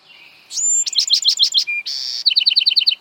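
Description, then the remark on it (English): A songbird, in a recording from the Cornell Lab of Ornithology, sings a quick, varied phrase of high, bright notes: a thin whistle, a run of rapid chirps, a buzzy trill, then a fast series of sharp repeated tweets, with no voices. “Bird songs we feature on Bird Note come from the Cornell Lab of Ornithology.”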